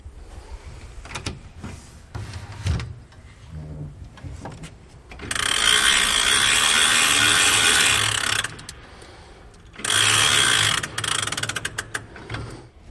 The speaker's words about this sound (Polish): Teraz właśnie będziemy nakręcać zegar, który raz w tygodniu wymaga, żeby pociągnąć mu wagi. Duży, piękny, stojący zegar FMS Friedrich Max Schweiningen.